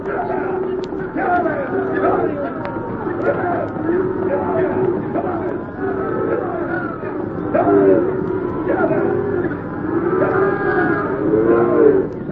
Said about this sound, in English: Come on, let's get these cows moving. We ain't got any more time than we need. Yeah. Get up there. Get up. Come on, you critters. Get moving there. Come on.